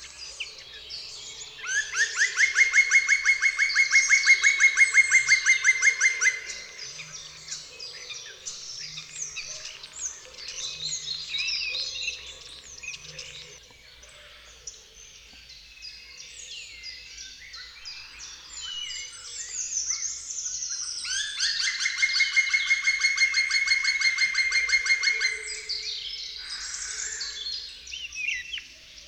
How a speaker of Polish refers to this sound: Piosenka Dzięcioła Czarnego rozpoczyna się od kilku niższych i wolniej wydawanych dźwięków, które następnie przyspieszają i zmieniają się w trwającą około 5 sekund szybką serię jednakowych, ostrych sylab.